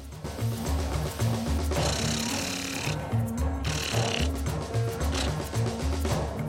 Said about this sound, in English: A length of copper pipe locked in a vise is sawn in half.